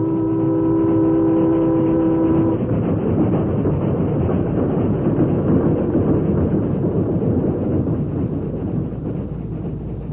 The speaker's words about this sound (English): you saw the train pass as you wanted to.